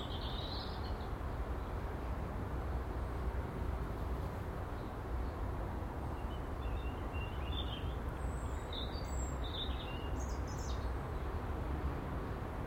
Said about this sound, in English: But at least the birds sound happy this morning.